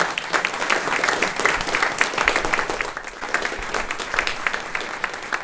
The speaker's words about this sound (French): Je pense qu'on peut les applaudir, elles sont magnifiques.